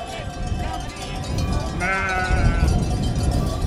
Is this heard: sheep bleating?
yes